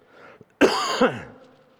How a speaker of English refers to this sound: Please pardon me if I cough up here. The allergies are just... How many of you are being plagued with the allergies this year? Man, it's like the pollen has just got my name on it or something.